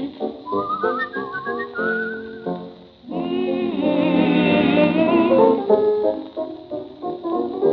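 Someone whistles a lilting melody up close, the clear notes sliding and bending from one pitch to the next, with a fuller, richer stretch of sound in the middle of the tune.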